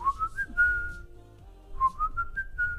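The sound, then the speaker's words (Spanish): Someone whistles a short melodic tune from a song, two rising phrases of clear notes stepping upward, with a faint low rumble of background noise and no talking. “No, es como un chiflidito.”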